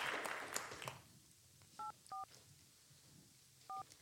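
Three short electronic touch-tone beeps of a phone number being dialed, two close together and one after a pause, clear against a quiet background after a brief rustle at the start.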